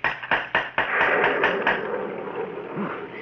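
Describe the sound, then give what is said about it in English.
A quick series of about eight sharp knocks from a door knocker on a gate, evenly spaced, over a steady hiss of wind and rain from a night storm that carries on after the knocking stops. “Ah, yes, yes, the gate. Here's the knocker.”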